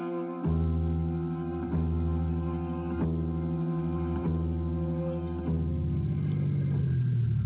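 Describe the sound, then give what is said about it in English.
A car engine idles with a steady, droning hum and faint periodic thumps, then its pitch sags and winds down toward the end as it shuts off. No one speaks. “I'm turning the engine off while I wait for you.”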